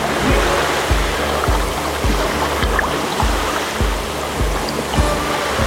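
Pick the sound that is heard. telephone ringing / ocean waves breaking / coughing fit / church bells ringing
ocean waves breaking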